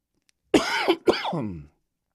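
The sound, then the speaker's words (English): Two loud, harsh coughs right up against the microphone, one after the other with a brief gap between, the second dragging out slightly longer. “Sorry, coughed right in your ear.”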